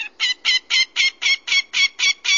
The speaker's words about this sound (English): So the American widgeon, what kind of a bird is that? Well, it's a dabbling duck, just like a mallard, and it's very similar in size to a mallard.